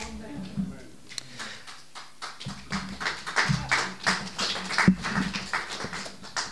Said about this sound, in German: Ich brauche das ja so sehr, den Applaus. Ihr wisst genau, wie ich leide. Ja. Nein, ich kann das nämlich richtig deuten. Ich kenne das mit diesem Applaus.